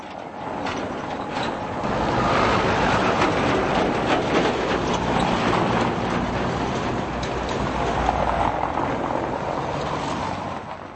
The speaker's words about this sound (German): Wenn dann auch noch eine Straßenbahn über die Weichen einer Kreuzung rattert und die Ampel lautstark das Grünsignal verkündet, ist ein Gespräch in normaler Lautstärke so gut wie unmöglich.